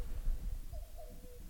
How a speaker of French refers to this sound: Et j'espère que tu l'entends, il y a un coucou qui m'accompagne, c'est trop cool.